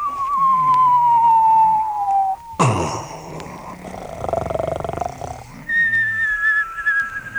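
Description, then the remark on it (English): A long, steadily falling whistle gives way to a sudden noisy burst and rumbling clatter, then a second, higher whistle starts up; loud sound effects with no talking. “They're dropping whistles on us again, Sarge.”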